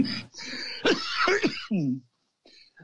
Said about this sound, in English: Well, I better go before I cough up a lung.